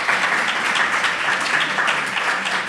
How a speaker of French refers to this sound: Merci docteur, on peut l'applaudir.